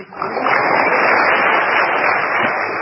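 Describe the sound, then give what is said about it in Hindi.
Sustained applause from a crowd, a dense steady wash of many hands clapping at once, loud and even for nearly three seconds with no voices standing out. “एक ताली हमारी भी बजाओ”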